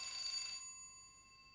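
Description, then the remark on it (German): A neighbouring flat's doorbell rings once, a bright metallic chime with a bold, buzzy onset that fades into a steady, ringing tone. No voices accompany it. “Jetzt läutet der oder die nebenan.”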